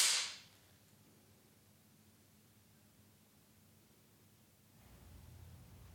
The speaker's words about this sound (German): Eine Dame mit einer Filmklappe erscheint und sagt wahrscheinlich Klappe die erste.